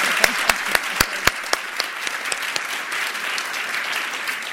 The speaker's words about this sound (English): But in the meantime, can we just get a round of applause for our panelists? You guys are incredible.